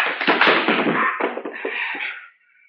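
A rapid flurry of dull punching thuds and scuffling impacts as a man is punched and knocked out, a few sharper blows near the end before the commotion fades into quiet.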